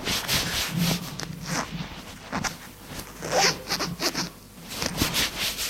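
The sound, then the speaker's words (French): Steady rustling and rubbing of fabric as a pair of trousers taken from the floor is pulled on, with quick zipper-like rasps in irregular bursts and no voices. “Prend un pantalon à terre pour l'enfiler.”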